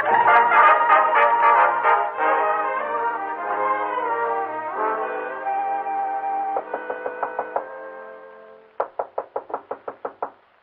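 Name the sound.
knocking on a door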